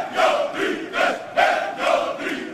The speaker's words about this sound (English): These are Greek reservists parading on the day the German leader visited Athens at the height of the debt crisis. Incredibly, they're shouting, Nazis out.